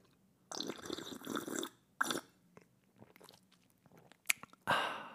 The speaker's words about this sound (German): So, ich hätte jetzt nicht schlürfen müssen, er ist schon kalt, aber ich wollte, damit ihr auditiv ein bisschen etwas zum Miterleben habt. Ein wenig ASMR.